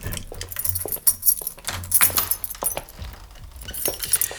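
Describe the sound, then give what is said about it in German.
Keys on a ring jangle and clink repeatedly, with bright metallic rattles coming in short bursts over a few seconds as they are shuffled through to pick out an apartment key being handed over. “So, hier habt ihr den Schlüssel.”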